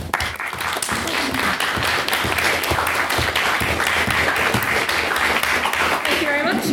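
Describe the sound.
Steady audience applause, a dense wash of many hands clapping at a loud, even level for several seconds, with faint voices creeping in near the end.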